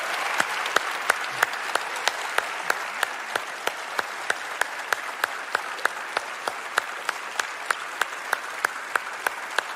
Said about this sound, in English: I'm going to ask, if you don't mind, would you stand in all of our campuses and would you, with a thunderous applause, would you help me welcome Beaver Creek and all of the guests that are joining us today?